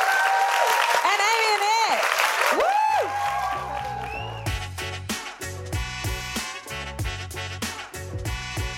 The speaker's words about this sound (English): So let's join me in clapping the wonderful Sarah Pascoe, Rose Magifeo and Jack Rich.